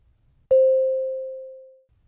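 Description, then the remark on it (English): A single mid-pitched electronic beep, a cue to start speaking in a role-play exercise, starts sharply and rings out steadily, fading over just over a second, with nothing else around it. “Start after the beep.”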